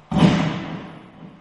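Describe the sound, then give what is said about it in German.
A single pistol shot: one sharp, loud crack that trails off into a long, echoing reverb tail lasting over a second. No voices or other sounds. “als wenn Sie einfach nur den Pistolenklang abspielen”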